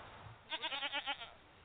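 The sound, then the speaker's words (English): A single goat bleat, a wavering, quavering cry that pulses several times over about a second, heard clearly against a faint background hiss with no one talking. “Later, we'll milk the goats and make the milk into cheese.”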